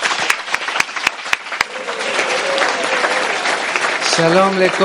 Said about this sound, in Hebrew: אנחנו היום משדרים אליכם מרחובות, בית קבלה לעם ברחובות. תודה שאתם כאן, כפיים לכם.